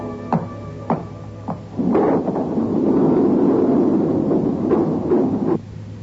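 A lift door clanks a few times, then rumbles shut with a long, loud grinding slide and a final thud, all over a steady low mechanical hum.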